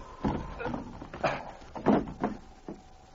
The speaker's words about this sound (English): I'll get through this window.